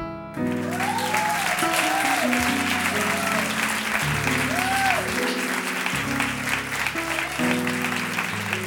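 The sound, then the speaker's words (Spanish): A large audience at a concert claps steadily and loudly for several seconds for a choir, a dense wash of applause with some sustained musical tones or voices humming underneath. “Un aplauso para vos, para este coro divino.”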